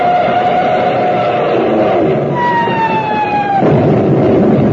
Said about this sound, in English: Wow, look up there. Planes diving out of that cloud bank. What the... Jets. Jet dive bombers. Get down, tank.